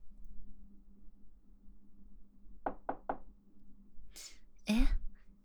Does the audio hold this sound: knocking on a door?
yes